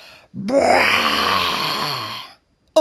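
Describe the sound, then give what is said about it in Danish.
An enormous tiger's mighty roar: one long, loud, rumbling bellow lasting about two seconds, rising and then sinking in pitch, with no talking over it and a brief new sound starting just after. “Snart lød der et mægtigt brøl.”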